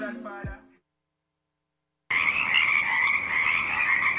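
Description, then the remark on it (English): After a short burst of another sound and a pause of silence, a dense chorus of Pacific chorus frogs croaks continuously and loudly at Tektaxan Marsh on Sutona Island, British Columbia, their overlapping calls rising and falling over the steady hiss of a stiff breeze. “The song of the Pacific chorus frogs rises and falls above a stiff breeze.”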